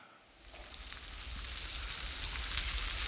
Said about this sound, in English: Okay. So it's rain falling off of a porch, and you're sitting there, and it's like, wow, I got something I was going to do today, and I'm not doing it now. I'm taking a nap.